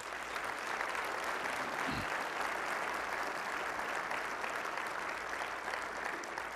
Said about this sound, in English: I would like you to give the Lord a clap offering for this man's life.